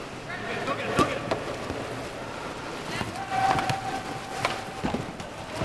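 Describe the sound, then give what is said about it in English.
Paddles slap and splash the water in quick, irregular strokes as 10 helmeted, padded kayak polo players in life vests and 6-foot kayaks zip around a 25-yard-long echoing indoor swimming pool at a fitness center in Omaha, Nebraska, on a Friday night, with faint indistinct voices and a brief thin whistle-like tone in the background. “10 helmeted and padded men and women wearing life vests zip around a 25-yard-long indoor swimming pool in 6-foot kayaks.”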